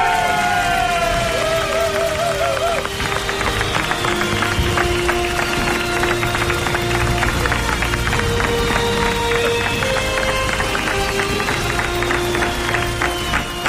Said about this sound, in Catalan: Aplaudiments improvisats de la redacció. Moltes gràcies. Moltes gràcies. Sempre és un plaer que vingueu aquí de forma improvisada.